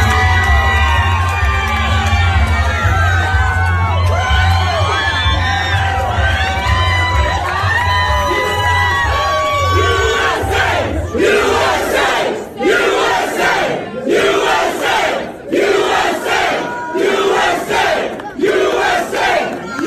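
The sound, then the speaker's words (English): A large crowd at a wedding reception crashed by President Trump at his Bedminster golf course cheers and shouts loudly and continuously, many voices overlapping in excited whoops and yells, then breaking into rhythmic chanting bursts toward the end. “And as the president is off to do, he crashed a wedding reception. And I want you to hear what happened.”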